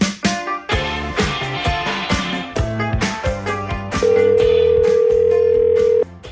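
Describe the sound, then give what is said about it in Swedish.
A single steady ringback tone from an outgoing phone call to a reporter in Gothenburg sounds for about two seconds over a busy, rhythmic music bed, then cuts off. No one speaks. “Så jag tycker vi tar och ringer upp henne.”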